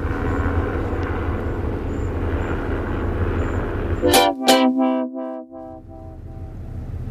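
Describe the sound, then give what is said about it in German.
A red helicopter drones steadily overhead with a low, continuous rumble as it circles in a loop, then a couple of sharp bangs and a brief tonal honk cut through before the engine noise returns. No one speaks. “Ja, ein roter Hubschrauber, weiß nicht, ob die Farbe von irgendeiner Bedeutung ist, der hat jetzt über mir eine Schleife gezogen und ist wieder weg.”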